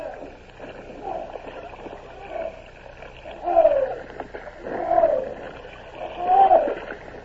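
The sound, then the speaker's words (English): Oars pull steadily through water in a slow, repeating rhythm as crews row barges and a bomb ketch toward a river, each stroke bringing a creak and a soft splash. The strokes come about every second and a half, with no talking. “Like three giant water bugs fastened together, the barges and the bomb ketch began to move. Starboard side, oars! Port side, pull harder!”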